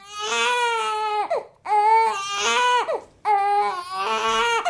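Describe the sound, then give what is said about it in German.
A baby wails loudly in three long, sustained cries, each breaking off with a short catch of breath before starting again. No one speaks. “Gefällt ihnen nicht, wenn ihr Baby schreit?”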